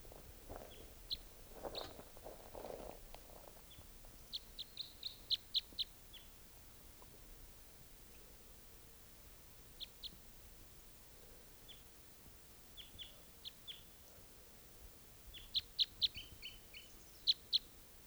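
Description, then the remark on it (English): A wild bird calls repeatedly where decoys are set out, with short, high chirps in scattered bursts over a quiet, low background hiss; no one speaks. “I've got the decoys out, and they've been out for about in half an hour, and there's at least one wild bird here still.”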